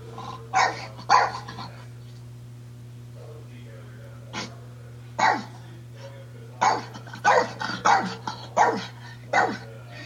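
dog barking

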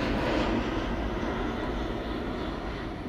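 airplane passing overhead

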